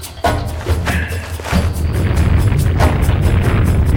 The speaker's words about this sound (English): Okay, folks, I don't want to alarm you, but we've got to drop everything and run. There's some sort of flood heading this way. I don't know what, but it's big. Real big.